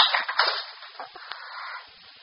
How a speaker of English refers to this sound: Now I'm going to show you a trick. It's a barroom trick. Watch what happens when I hit the edge of the desk with this bottle.